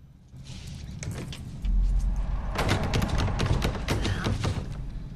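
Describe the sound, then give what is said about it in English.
A locked locker-room door is yanked and rattled over and over by a woman trying to get out, producing a busy series of sharp metallic clanks and knocks over a low rumble that grows heavier partway through. No one speaks. “She pulls the door to get out.”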